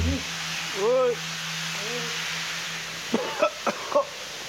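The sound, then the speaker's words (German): A pesticide sprayer used by workers spraying pesticides hisses steadily in a greenhouse, a continuous broad rushing sound, with a few muffled voice-like calls early on and a short cluster of sharp clicks toward the end. “Die Aufnahmen zeigen Arbeiter beim Spritzen von Pestiziden.”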